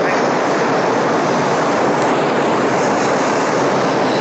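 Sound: passing train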